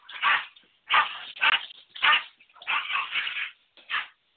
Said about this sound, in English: Excuse me, I've got a dog fight here. So... I've got a female corgi, and everything belongs to her, even if it's somebody else's.